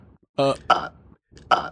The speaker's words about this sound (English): Excuse me. Sounds like he burps.